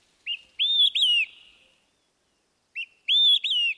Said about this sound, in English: The olive-sided flycatcher. In a few weeks, these flycatchers will leave for their wintering grounds in South and Central America.